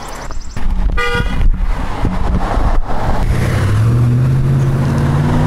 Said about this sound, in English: No, we can't go yet. No, my gosh. Big truck coming. It'll squash us like a bug. Now we can go.